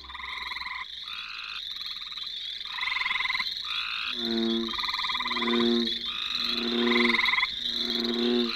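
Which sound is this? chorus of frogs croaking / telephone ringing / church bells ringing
chorus of frogs croaking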